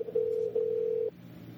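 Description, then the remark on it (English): A steady electronic ringback tone on an outgoing phone call plays for about a second with a brief dip midway, then cuts off, leaving a faint low hum behind. “Ring, ring, ring, banana phone. See if he picks up.”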